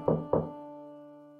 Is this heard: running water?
no